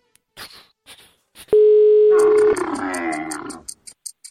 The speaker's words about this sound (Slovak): To je pekná nápoveda, ak nás práve v tomto momente počúva, že by jej mal zvoniť telefón, a práve z tohto dôvodu vytáčame telefón rovno v tomto momente.